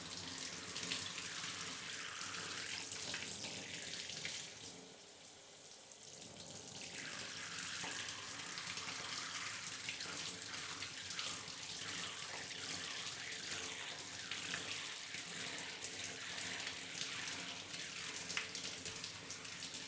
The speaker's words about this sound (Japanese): よし、じゃあシャワーで流すから、まだ目はつぶったままでいて。熱くない？うん、じゃあこれくらいで泡を全部流します。